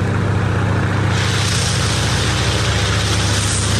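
A rebuilt propeller aircraft engine mounted on the back of a flatbed truck, later part of a World War II biplane trainer built by Dave Groh of Yesteryear Aviation Incorporated, runs steadily: a loud, continuous low drone with a buzzing harmonic throb and a whooshing wash of air that brightens after the first second.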